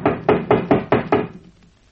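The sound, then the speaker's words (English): A series of six firm, evenly spaced knocks on a wooden door, fairly loud and sharp, with no voices, fading into quiet after the last rap. “Come on inside, open this door.”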